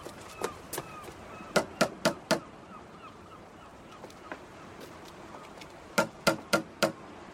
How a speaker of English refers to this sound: Shall I fetch her? No. I'll knock.